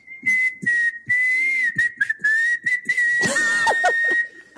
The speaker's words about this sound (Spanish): porque uno dice, no puede ser que una persona silbe así. Y sí, no, ese es el silbido normal.